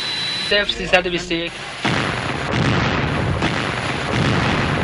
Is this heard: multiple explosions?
yes